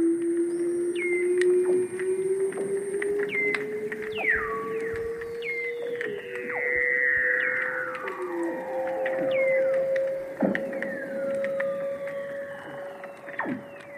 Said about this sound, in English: All of those sounds, the space sounds, those bird calls, jungle sounds, everything is seal song. There's a background buzz of clicks and crackling. That's probably snapping shrimps. But the seals? Wow. I've never heard anything like that before.